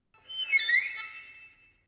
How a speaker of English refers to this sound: Here are some birds singing